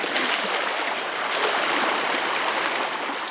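creek water flowing

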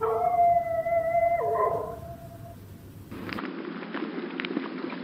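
dog howling

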